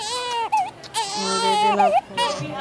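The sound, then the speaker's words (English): Several newborn babies cry at once in a crowded maternity ward of a hospital in the Philippines, their thin, wavering wails overlapping continuously and loudly, with no pause between cries. “I'd heard a lot about Fabelia Hospital before arriving in the Philippines, but nothing prepared me for the sight of a maternity ward overflowing with hundreds of new moms.”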